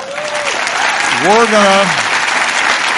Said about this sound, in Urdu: صدر کے اعلان کا زبردست تالیوں کے ساتھ خیر مقدم کیا گیا۔